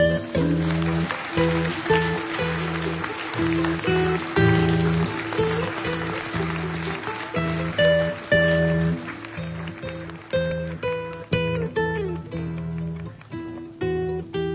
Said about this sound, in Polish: Uczcimy ich oklaskami, kochani.